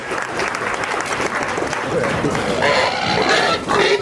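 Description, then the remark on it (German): Loud, shrill pig squeals rise in bursts toward the end at a contest won by the pig that squeals loudest of its own accord, over steady crowd noise like clapping and chatter, with voices talking throughout. “Einen Wettbewerb, wo das Schwein gewinnt, das aus freien Stücken am lautesten quiekt.”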